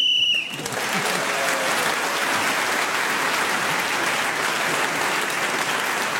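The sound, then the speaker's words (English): A brief, shrill whistle blast sounds at the start, blown to end a round while Jenny Eclair was speaking, then a crowd breaks into steady, loud applause that continues for several seconds. “So Jenny Eclair was then speaking as a whistle went, gained that extra point, and she's moved forward.”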